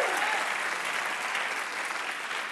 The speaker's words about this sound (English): right now, please put your hands together for our one-man Ask Me Another band